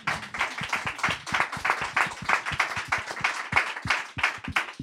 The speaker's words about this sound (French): Ouais, j'aimerais bien qu'on applaudisse, parce que je trouve ça très beau.